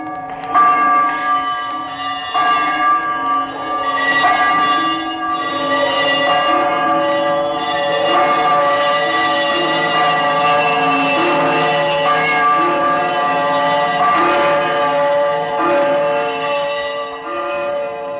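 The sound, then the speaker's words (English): A large, disused bell hanging in the corner of a room rings out continuously, its overlapping strokes blending into a dense, shimmering wash of sustained metallic tones that fills the space without pause. No voices are present. “As he turned, his glance happened to rest upon a bell, a disused bell that hung in the corner of the room.”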